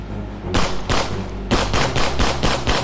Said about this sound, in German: Es fallen Schüsse.